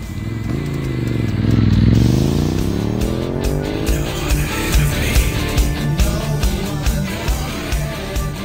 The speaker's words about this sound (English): Rev up your motorcycle and join our Rough Ride Motorcycle Charity Ride.